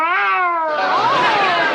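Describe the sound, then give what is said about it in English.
A cat in Boulder lets out a long, drawn-out meow that wavers and rises into a yowl, loud, with no talking over it. “Well, welcome to Boulder, kitty.”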